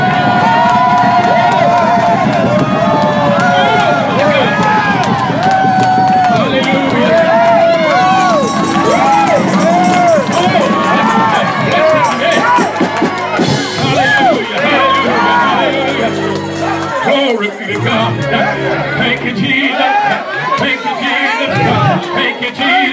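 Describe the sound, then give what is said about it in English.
A large crowd at Silver Creek stomps on the floor on a count of three in a loud, continuous rumble of thudding feet while cheering, whooping and shouting together. The noise stays full and steady throughout. “At the count of three, I want you to stomp the floor. I want you to rattle it.”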